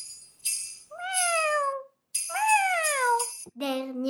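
A cat meows three times in close succession, each call drawn-out and tonal with a falling pitch. It's loud, with a faint steady high hum behind it.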